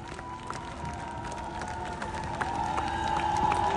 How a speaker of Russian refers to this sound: Искупайте его овации.